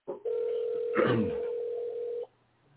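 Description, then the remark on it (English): A single steady ringback tone from an outgoing phone call hums for about two seconds, clear, with a brief murmur of a voice partway through before it cuts off. “Okay, it's phone ringing.”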